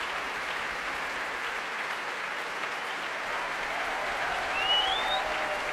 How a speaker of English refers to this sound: Huge round of applause for percussionists tonight, Stephen Henderson and David Jackson, who had such a great time in that Tom and Jerry medley.